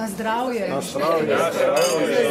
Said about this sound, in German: Zum Anstoßen und einander zuprosten gibt es viele Anlässe beim Poesie- und Weinfest im mittelalterlichen Tuj, der ältesten Stadt Sloweniens im Nordosten des Landes.